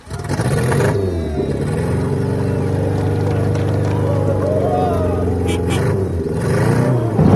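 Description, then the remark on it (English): Loud engines of racers' machines on the start line of a race roar to life and rev steadily for several seconds, a dense rumbling drone that swells at the start and again at the end, with indistinct voices mixed underneath. “All right, drivers, start your engines.”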